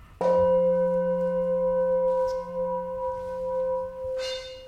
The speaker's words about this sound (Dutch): Miraculeus, hè, die gong.